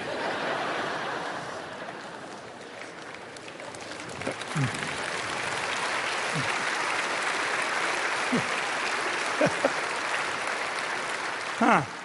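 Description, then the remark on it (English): An audience clapping for the speaker, applauding steadily for several seconds, a dense, continuous patter of clapping with a few scattered louder claps and faint voices mixed in. “So you're clapping me for not going there, are you?”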